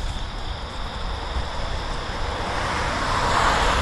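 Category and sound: vehicle, car driving past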